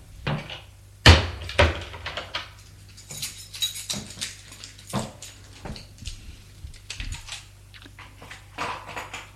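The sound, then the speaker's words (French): An apartment door is unlatched and opened: a sharp clack and a second knock early on, then scattered softer rattles, creaks and shuffling movements with no one speaking. “Elle ouvre la porte de son appartement.”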